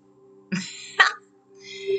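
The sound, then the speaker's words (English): Two short, sharp dog barks about half a second apart, the second louder and more abrupt, followed by a softer high-pitched whine or yelp trailing off at the end. “I'm blocking the dog.”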